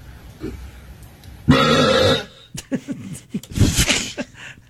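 A man from Australia lets out a long, loud, guttural burp lasting under a second, the world-record loudest belch on record, followed by a few shorter rumbling belches and gulps that taper off in a low, croaking rasp.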